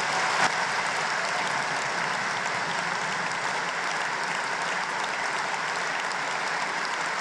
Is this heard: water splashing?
no